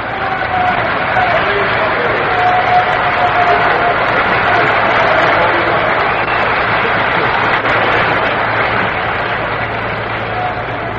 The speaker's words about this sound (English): Johnny Podres getting the round of applause he richly deserves.